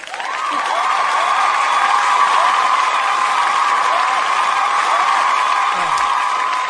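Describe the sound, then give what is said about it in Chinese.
Steady, loud applause from a sizeable audience fills the whole stretch, mixed with cheers and rising whoops, a dense continuous roar with no pauses and no clear speech. “那让我们再一次把掌声 送给 我们的豆豆欢”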